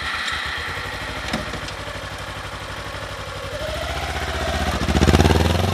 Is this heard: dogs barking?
no